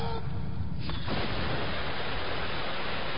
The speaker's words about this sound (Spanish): Un gran chorro de agua arroja a Hans contra la otra pared del túnel.